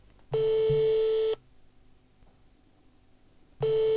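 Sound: phone ringback tone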